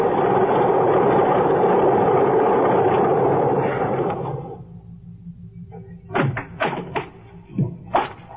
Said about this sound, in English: I am listening to the most beautiful sound in the world. I got to the airport just as the plane taxied up the strip. Single engine job. Just right.